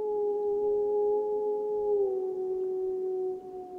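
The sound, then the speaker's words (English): A single long wolf howl holds a steady, tonal note for several seconds, sliding slightly lower near the end, heard clearly and alone over faint low background rumble. “I mean, the howls were booming in.”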